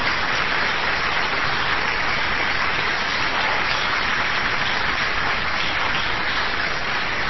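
An audience applauds an invited guest, clapping steadily for about seven seconds, a dense, even crackle of many hands with no break in intensity and no voices on top.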